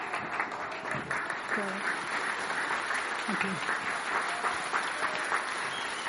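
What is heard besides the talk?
audience clapping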